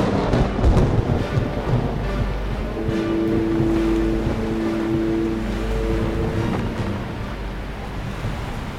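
Strong storm wind roars steadily over crashing sea surf aboard a sailing ship near the eye of the storm, with heavy rain, low rumbling and a faint tonal drone like the ship's hull or rigging, continuous throughout with no voices.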